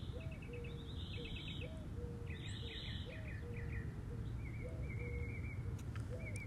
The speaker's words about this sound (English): I'm sitting under my tree. Underneath my palm tree. It's not really my tree. And I'm listening to the birds.